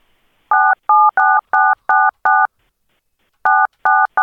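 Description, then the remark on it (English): Loud telephone touch tones beep in a steady run of six short key presses, then after a pause three more, dialing room 117. Some beeps sound layered, with three keys pressed at once. No voices. “Those are spooky touch tones. If you hit 3 at once.”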